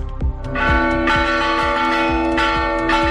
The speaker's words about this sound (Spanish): Con un repique manual de campanas, varias iglesias del casco histórico de Santiago celebraban los 30 años del reconocimiento de la UNESCO al Camino, una acción en la que ha colaborado la Asociación de Campaneiros de Galicia.